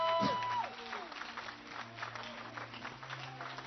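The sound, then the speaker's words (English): An audience gives a clap offering, steady dense applause with scattered whoops for several seconds, and a faint organ tone sustained underneath. “Give him a clap offering, somebody.”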